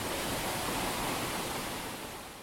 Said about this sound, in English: The waterfall is definitely worth a look, and the power of the white water plunging vertically over the rock is impressive, You can feel it vibrating through the wooden handrails of the viewing point.